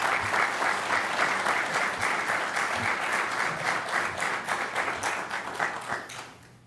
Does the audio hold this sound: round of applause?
yes